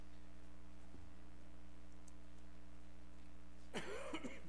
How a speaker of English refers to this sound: I'm going to apologize for my cough. I've been fighting with this for about 3 weeks now, and I just can't seem to shake it, but hopefully it won't interfere too much with what I have to say this morning.